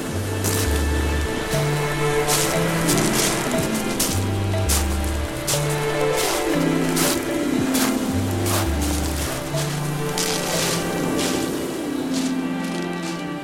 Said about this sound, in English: We wandered down to Brighton seafront to hear what was going on.